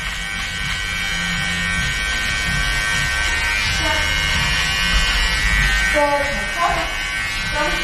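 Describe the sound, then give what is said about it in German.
An electric hair clipper, used in a haircut to take off the sideburns, buzzes loudly and steadily right at the ear, a dense droning hum that never lets up, with faint murmured voices surfacing briefly beneath it. “Ich halte jetzt mal kurz inne, weil dieses Gerät direkt an meinem Ohr summt.”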